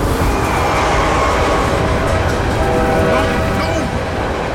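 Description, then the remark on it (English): A freight train speeding past, a loud, steady roar with rumbling wheels and metallic rattling that stay dense and constant throughout. “The last thing I remember was seeing flashes of the van through the speeding freight cars before it disappeared out of sight like a ghost.”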